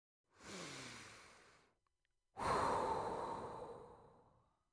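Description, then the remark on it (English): A slow breath in followed by a longer, louder breath out, taken while recovering from the shock of running away from a bear, each a broad airy rush with a short pause between them and no talking. “You breathe in and you breathe out.”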